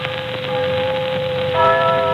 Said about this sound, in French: Mais écoute maintenant, voilà l'Angélus qui sonne.